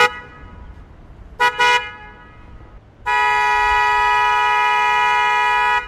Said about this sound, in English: And how loud is it? It's 112 decibels. And that's a typical car horn, right?